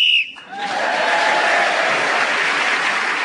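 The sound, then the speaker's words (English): A single short, shrill whistle blast ends the round as Rob Brydon is speaking, then quickly gives way to sustained audience applause and cheering that continues steadily to the end. “So Rob Brydon was then speaking as the whistle went, gained that extra point.”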